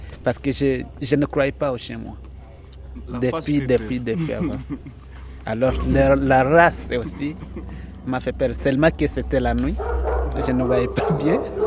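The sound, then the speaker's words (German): Several tracking dogs, including bloodhounds, of an anti-poaching dog squad at a national park in northeastern Congo, bordering Rwanda and Uganda, bark loudly and repeatedly, short overlapping barks and yips coming in busy bursts with barely a pause across the whole stretch. “Seit einiger Zeit gibt es sogar eine Hundestaffel, um Wilderer aufzuspüren.”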